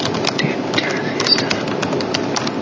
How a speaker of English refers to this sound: Dude, she's typing.